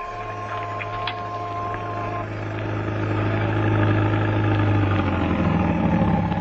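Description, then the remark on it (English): A taxi engine in New York runs at a steady low idle, its deep hum swelling slightly louder partway through as it revs, with no voices over it. “You had to take a taxi. My taxi. Well, there it is. Get in.”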